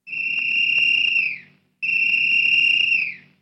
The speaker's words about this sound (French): L'instituteur tire un sifflet de sa poche et siffle trois fois.